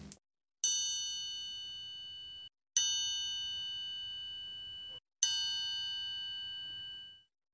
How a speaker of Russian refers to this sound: Цыпленок стоял, стоял и вдруг услышал тихий звон.